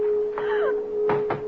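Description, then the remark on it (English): Heavy pounding on a door, a few loud thumps in quick succession, with a thin steady tone and a brief strained whine in the background. “Open this door!”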